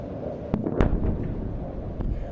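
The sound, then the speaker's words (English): Explosions from missiles falling into Gaza on a Tuesday night boom over a rumbling background as Israeli forces battle Hamas, with a couple of sharp, louder blasts and sporadic cracks of occasional gunfire, without any voices. “Missiles could be seen falling into Gaza on Tuesday night with explosions and occasional gunfire as the Israelis continue to battle Hamas.”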